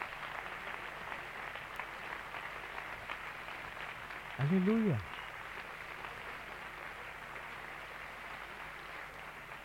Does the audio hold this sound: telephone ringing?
no